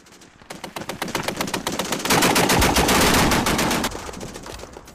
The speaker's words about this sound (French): Les soldats ouvrent le feu sur le robot, mais leurs balles rebondissent sur son armure.